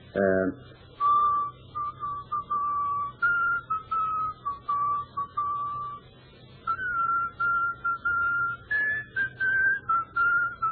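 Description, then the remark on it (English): A man whistles a funeral dirge, a slow, mournful melody of long held notes that drift up and down, clear over a low steady background hum, with short pauses between phrases. “He's always whistling to himself. And he whistles the same tune over and over again.”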